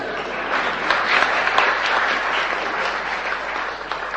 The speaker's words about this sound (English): If we confess, you can clap, that's right.